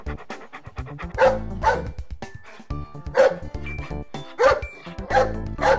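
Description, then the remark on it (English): A big dog barks loudly, several sharp barks in uneven bursts, some in quick pairs, with faint background tones underneath and no one speaking. “Who is barking?”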